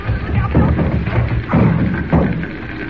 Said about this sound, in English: Jimmy, look out! The door's coming in!